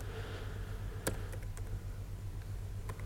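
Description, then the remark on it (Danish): Scattered keystrokes tap on a computer keyboard in short, irregular bursts of crisp clicks, one sharper than the rest, over a steady low electrical hum with no voices, as someone types out the full name of an Azure instance. “Så hvis jeg bare skriver det her navn fuldstændig, som det står.”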